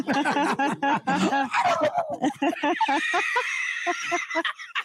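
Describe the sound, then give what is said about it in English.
A person imitates a turkey gobble, a fast, warbling string of throaty pulses lasting several seconds, rising into a higher, nasal trill before ending in choppy bursts. “Wow, turkeys.”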